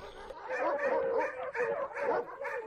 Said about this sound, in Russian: Поднялся вдруг весь псарный двор. Почуя серого так близко забияку, псы залились в хлевах и рвутся вон на драку.